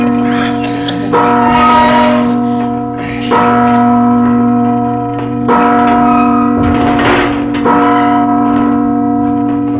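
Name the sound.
large bell ringing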